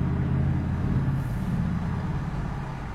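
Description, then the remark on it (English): Steady, loud low rumble of car and truck engines in heavy road traffic, with a deep droning hum, continuous for the whole stretch with no voices. “Why are there so many cars?”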